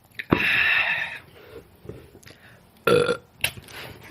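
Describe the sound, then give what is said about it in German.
A person burps on command after taking a sip: a long, loud, rumbling burp, followed after a pause by a shorter, sharper burp and a brief final belch. No talking. “Ich kann auf Kommando rülpsen jetzt, aber ich nehme noch einen Schluck.”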